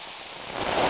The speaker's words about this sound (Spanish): La lluvia llegó.